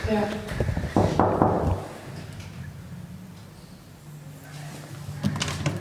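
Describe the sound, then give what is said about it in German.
Several sharp knocks on a locked door in a quick burst, a quiet pause with faint background noise, then another short cluster of knocks near the end. “Soll ich hier klopfen? Klopf mal hier.”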